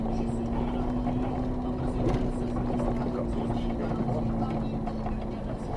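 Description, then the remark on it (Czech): A vehicle engine braking, slowing with the engine rather than the brakes: a steady low drone with a sustained tonal hum that holds nearly unchanged throughout, loud and continuous without breaks. “Víš, to je to, to brzdí motorem.”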